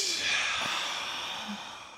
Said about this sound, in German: Ausatmen.